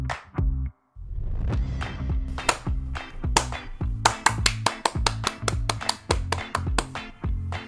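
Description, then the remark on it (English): Sharp hand claps made as editing markers for finding curse words to bleep: a few scattered ones at first, then a rapid, fairly even run of about a dozen crisp claps, heard over a low, steady droning tone. “I'll see the annoying claps on the sound waves and I'll know more or less where the curse will happen”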